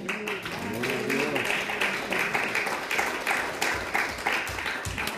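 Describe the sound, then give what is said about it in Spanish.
An audience applauds for Jesus steadily for about five seconds, a dense patter of many hands clapping, with some voices calling out over it near the start. “Del aplauso a Jesús.”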